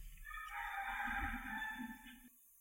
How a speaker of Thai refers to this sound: เสียงไก่ไกล